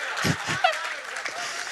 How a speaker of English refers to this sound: Now they're clapping.